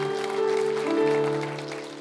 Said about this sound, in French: Est-ce qu'on peut juste applaudir ce que Dieu fait par son église aujourd'hui?